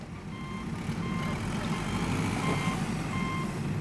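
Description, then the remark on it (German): A truck's engine rumbles steadily at a construction site on a hot, sunny day while its reversing alarm beeps at a regular pace, about one beep per second, over a continuous low drone. “Ein langer Tag auf der Baustelle. Der LKW steht seit Stunden, die Sonne brennt, die Konzentration sinkt.”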